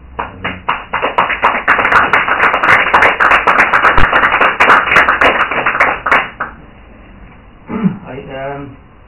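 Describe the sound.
An audience applauds with a dense, steady patter of clapping that lasts about six seconds and then quickly dies away, after which a man's voice begins speaking.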